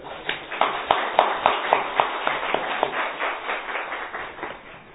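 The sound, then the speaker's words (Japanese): A church audience claps together to celebrate their new evangelist, in a steady, fairly even rhythm, many hands blending into a dense patter of moderate loudness that tapers slightly toward the end, with no talking over it. “ちょっと拍手しましょうかね。”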